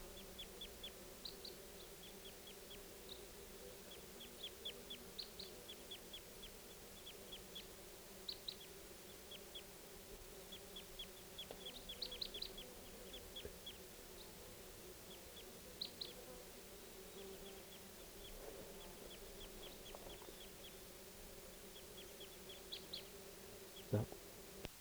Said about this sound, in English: Here's the calls of the flock again. I think they're going to take off. They're calling louder.